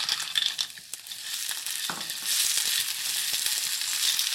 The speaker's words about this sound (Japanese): アサリを入れたら軽く全体を炒めます。